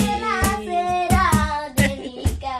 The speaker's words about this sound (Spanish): Que no solo es que cante, es que taconea y toca las palmas, aunque a veces la letra sea difícil de pillar.